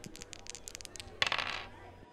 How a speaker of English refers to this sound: Okay, let's get going with lucky, lucky dice roll number 13.